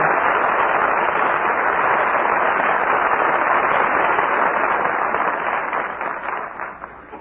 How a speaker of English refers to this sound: Curtain falls on my friend Flicker, and our very good friends George Brent, Roddy McDowell, and Rita Johnson answer your applause with a well-earned curtain call.